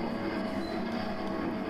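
The screw bearings of the small kinetic sculpture Wait for Me, about 60 cm tall, squeak and grind in a steady, unbroken mechanical drone with a humming low-mid tone, fairly loud and with no voices; now and then its steel rod strikes brass.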